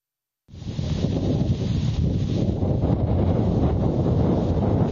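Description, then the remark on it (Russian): Stormy wind roars and buffets against the microphone in a steady, loud rumble that starts after a brief silence and continues without a break, in low temperature at a church on the Volga-Don Canal in the Volgograd region, Russia, on its feast day. No voices are heard. “В день престольного торжества, несмотря на низкую температуру и штормовой ветер, сюда пришло много людей.”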